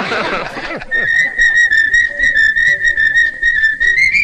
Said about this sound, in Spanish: Bueno, si no les gusta, no se molesten en silbar, porque para eso ya estamos nosotros.